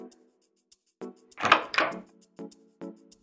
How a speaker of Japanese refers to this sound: 今、鍵開けるから、入ってきて。